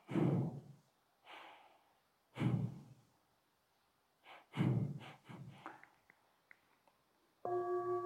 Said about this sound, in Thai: ผมว่าอาจารย์จะเป็นอย่างนี้อาจารย์จะเร็วนิดนึงสังเกตลมกระทบแล้วจมูกมันจะมีบานๆหน่อยมันจะโดนดูดเข้ามาเนี่ยอันนี้คือ B1 ที่ทำให้เรารู้สึกตัวได้ง่ายสุด